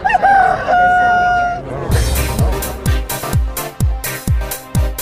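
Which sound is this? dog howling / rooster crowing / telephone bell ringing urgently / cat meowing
rooster crowing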